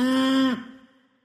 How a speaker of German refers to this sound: Moo, moo, hier kommt die Post. Kuh, moo, moo.